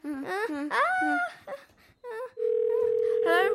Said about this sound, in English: Call someone! Okay, get the phone or something! Okay, I've got the phone. Dial the number.